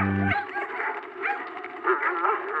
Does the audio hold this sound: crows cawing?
no